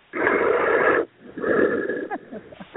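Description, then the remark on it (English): Heavy, raspy breathing heard on a phone line: a long loud exhale, a short pause, then another rougher breath trailing into small wheezy catches. “can you not hear the breathing?”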